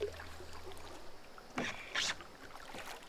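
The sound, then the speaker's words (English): A small boat steered with paddles moves through water, with two brief splashing swishes standing out over a soft, steady wash of water; no one speaks. “Found your boat!”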